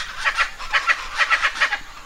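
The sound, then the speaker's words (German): Chaco chachalacas, brown birds, call in a loud, harsh chorus, one group answering another in turn, a steady run of raspy, rhythmic bursts repeating several times a second, with no voices. “dieses Rumgeschreie, das sind die Chachalacas.”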